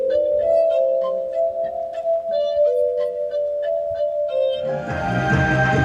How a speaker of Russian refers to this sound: Так звучит вот этот уникальный инструмент. Это подобие стеклянного органа называется верофон, и он, согласитесь, издает поистине хрустальный звук.